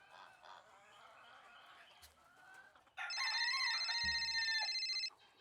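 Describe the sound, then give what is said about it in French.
After a few seconds of low background hiss, a little sister's alarm clock at home suddenly rings: a loud, rapidly pulsing, warbling tone that holds for about two seconds, then cuts off abruptly. “Une sonnerie. Je connais ça. Le réveil de ma petite sœur.”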